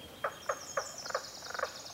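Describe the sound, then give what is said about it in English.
Frogs giving courtship calls in a beaver-flooded wetland: short, clucking croaks repeat roughly every quarter second, bunching closer near the end, over a thin, steady high-pitched chorus. No talking. “But it's interesting also to hear those frogs, because this is kind of a beaver-flooded area, and they just like...”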